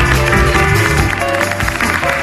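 Loud, steady audience applause on a contest stage in Lleida, welcoming a 52-year-old contestant from la Portella, fills about two seconds, blended with a bright musical cue playing underneath; no voices are heard.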